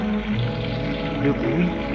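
Steady rushing water from a running shower, a continuous hiss with a low tonal hum underneath, even in level for the whole stretch.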